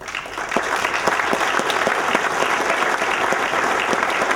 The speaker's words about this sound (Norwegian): Så fremt dere er her inne, så har jeg lyst til at dere også skal komme og få en varm, varm applaus.